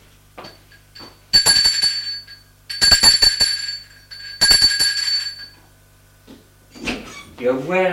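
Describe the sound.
An apartment doorbell rings three times in loud, bright, metallic bursts of about a second each, separated by short pauses. A voice then begins speaking.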